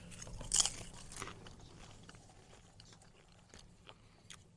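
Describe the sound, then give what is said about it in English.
Angie's Boom Chicka Pop real butter microwave popcorn being chewed, with a sharp, loud crunch early on followed by another bite and then softer, irregular crunching that fades into quiet chewing. No one speaks. “So it's Angie's Boom Chicka Pop real butter microwave popcorn.”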